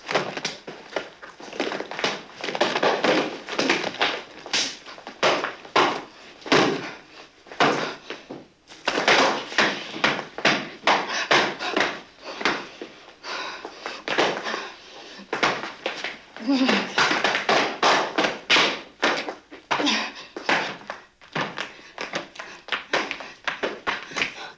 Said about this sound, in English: She slaps the shit out of him. And if anyone could take it, it'd be Lee Marvin. And the great story behind it is that was 100% real emotion behind that slapping. She hated Lee Marvin.